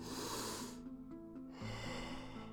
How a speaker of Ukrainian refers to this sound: Вдих, видих. Вдих, видих. Повний вдих, видих. Вдих, видих.